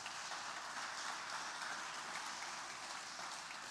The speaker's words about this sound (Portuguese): Dá um aplauso ao Senhor aí.